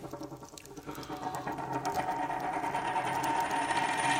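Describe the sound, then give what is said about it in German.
A Saxon gold coin, an August d'or stamped 1750, is set down on a table, giving a metallic rattling clink that rings and grows slightly louder over a few seconds, with no voices. “War es vielleicht eine so schöne blanke Münze wie diese ihr, Monsieur Ries?”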